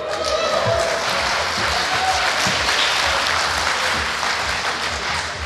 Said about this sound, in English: I like to think you're clapping me and not the sex robots.